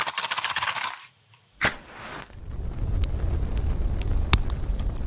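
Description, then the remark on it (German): A quick series of sharp scraping strikes, a short pause, then a whooshing flare as a campfire catches, followed by a steady low rumble of flames with scattered pops and crackles. “So, während das Feuer jetzt wohltuend im Hintergrund knistert, soll es dir gleichzeitig Motivation und Inspiration zum Aufbruch für deine Reise zu mehr innerer Ruhe und Zufriedenheit sein.”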